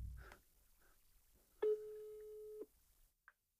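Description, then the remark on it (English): A single steady electronic ringback tone of an outgoing phone call sounds for about a second, clear and fairly loud, followed by brief quieter blips, with no voices. “Then we call your wife, and then you can just do your call. Okay, we'll try it like this. Okay, it's ringing.”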